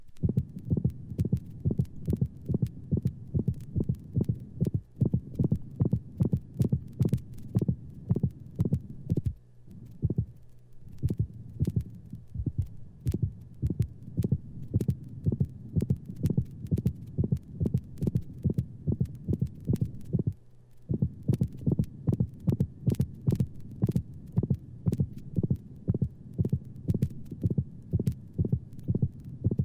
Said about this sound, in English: This sound, unlike the split heart sounds, may occur singly or in multiples. In the dog, systolic clicks may antedate mitral insufficiency.